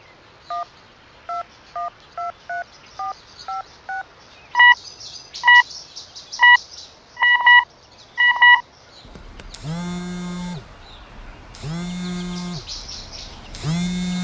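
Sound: telephone keypad dialing tones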